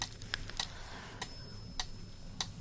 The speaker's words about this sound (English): It's okay to think them for your mind to sometimes wander off, for you to sometimes even lose track of my voice as the metronome's ticking takes over your thoughts.